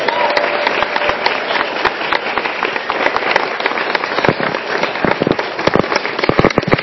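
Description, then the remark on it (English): A crowd claps steadily for several seconds, a dense patter of sharp hand claps that swells slightly and grows more scattered and punchy toward the end, with no voices over it. “So can we have a little round of applause for you?”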